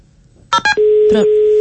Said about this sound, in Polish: Przerwane połączenie.